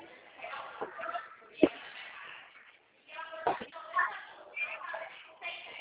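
Someone rummaging through drawers: steady shuffling and rustling, broken by two sharp knocks as things bump, with a faint, muffled voice now and then in the background.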